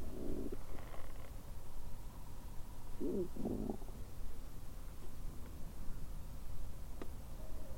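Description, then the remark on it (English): A few soft, low hooting calls, thought to be an owl, come faintly from far off in the woods surrounding a cemetery, once near the start and again as a short pair a few seconds later, over a steady rumbling background hiss. “Thought I heard an owl from way out.”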